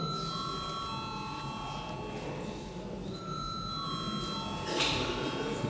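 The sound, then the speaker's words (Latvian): A continuous electric call bell rings steadily throughout in the Saeima parliament, calling deputies to a vote, a sustained metallic tone with faint background murmur, its pitch shifting slightly midway before carrying on. “Lūdzu zvanu.”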